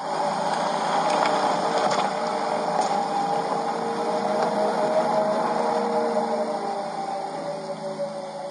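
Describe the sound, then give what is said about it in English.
A car's programmed artificial driving noise plays continuously, a steady synthetic hum layered with sustained electronic tones over a whooshing, motor-like wash, holding at an even loudness for several seconds with no talking; its tone changes with the car's speed. “This is a noise that the car makes.”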